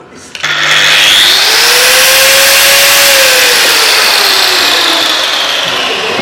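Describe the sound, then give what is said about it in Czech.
A blue Narex professional-series 1500 W corded power tool with refurbished bearings whirs up and runs steadily, a loud, even motor whine with a faint tonal hum that drifts slightly in pitch, no talking over it. “Slyšíte repasovaný ložiska, ale to celou stavbu.”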